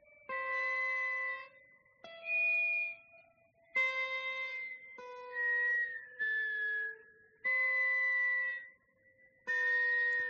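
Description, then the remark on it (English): A slowed-down recording of the last line of a piece in which one man plays an instrument and whistles: long, stretched harmonic notes in short separate phrases, with a higher whistled tone sliding along on top. No one speaks. “Now, let's listen what happens when you slow that way down.”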